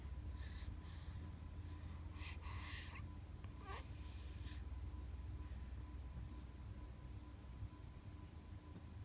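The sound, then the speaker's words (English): Soft, breathy inhales and exhales from a baby asleep on her mother's belly after breast milk, breathing abdominally, come in a quick, steady rhythm, faint over a low background hum; the breaths fade out in the second half. “And if you listen, it almost sounds like she's doing Ujjayi breath.”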